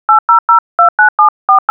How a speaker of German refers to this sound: Telefonnummern wählen